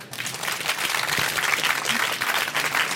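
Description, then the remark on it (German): A live audience at the Frankfurt Book Fair, at the Deutschlandfunk stage in Hall 3.1, applauds steadily, a dense wash of many hands clapping, sustained and fairly loud throughout without pause or speech. “Ja, und auf der Messe, was gibt's da? Da gibt's Publikum.”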